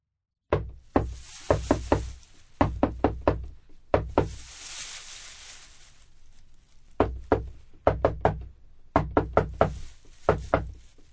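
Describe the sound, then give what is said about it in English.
Sharp knocks rap on a door in quick, patterned bursts of a secret knock, pausing briefly for a stretch of hissing noise before the rhythmic coded knocking resumes. “Then why didn't you answer the secret knock?”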